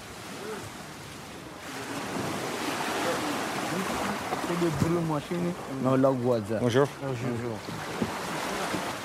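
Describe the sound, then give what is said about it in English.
Steady wash of lapping water and waves around a small fishing boat about 18 feet long at a beach, a boat used to smuggle migrants from Africa into the EU, with a breezy hiss throughout and voices briefly rising in the middle. “Getting into a small boat, a small fishing boat, which is probably about 18 feet long.”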